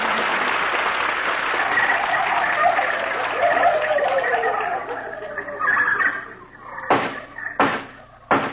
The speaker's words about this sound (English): She's the turkey of 29 pounds. Oh, gobble, gobble, the turkey of 29 pounds.